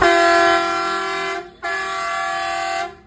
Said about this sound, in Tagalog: Yan ang busina natin, guys. Marco Truck Horn Extreme Blast.